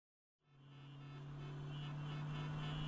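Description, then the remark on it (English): After a moment of silence, a steady roar of heavy road traffic from too many cars fades in and builds, with a low engine drone and continuous rushing noise from passing vehicles. No one speaks. “There are just too many cars these days. The traffic seems to get worse and worse.”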